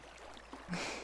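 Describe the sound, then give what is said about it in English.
Soft, steady rush of flowing water at a bathhouse beyond some trees, faint, swelling into a fuller hiss partway through with a brief low splash-like thud. No voices. “The bathhouse lies just beyond those trees. Simply follow the sound of the water.”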